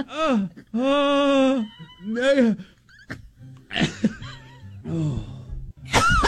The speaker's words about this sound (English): It's like a cough.